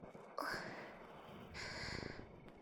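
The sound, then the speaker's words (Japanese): Two slow, warm exhales of hot breath blown onto the listener, addressed as master, each a soft, airy rush of breath lasting under a second, with a brief pause between them and no speech. “旦那様に熱い吐息を振りかけてしまいます。”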